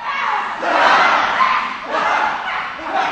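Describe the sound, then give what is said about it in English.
A person howls loudly and raggedly during a cathartic acting exercise, the cry swelling and dipping in long waves across a few seconds, with other voices seeming to yell along in a rough group clamor, on a sunny August morning in a circle of about a dozen people. “That's … howling you're hearing, my rolling on the floor, and let's just leave the rest to the magic as if of your imagination.”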